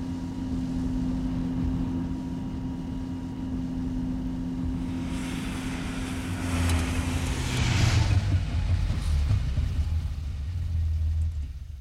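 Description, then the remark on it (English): A car engine drones steadily as the vehicle drives up to an old house, Elm Hall, its rumble swelling midway as it draws nearer, then settling into a low idling hum. No one speaks. “Well, don't just sit in the car”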